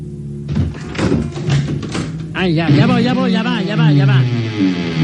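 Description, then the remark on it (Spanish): A quick series of firm, loud knocks on a door, rapping for about two seconds before a voice starts talking over faint background sound. “Ya va. Tauro. Hay un señor en la puerta.”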